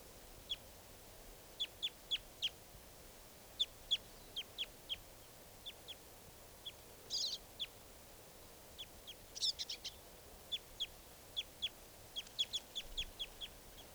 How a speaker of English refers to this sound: lone male. And he's joined by some other birds now.